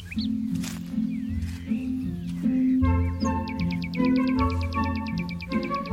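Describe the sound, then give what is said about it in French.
Birds sing outdoors at the top of a hill above a valley, with varied whistled calls giving way to a fast, regular series of high chirps, heard over a steady low hum or drone. “Alors, on a des oiseaux qui vont chanter plus ou moins longtemps.”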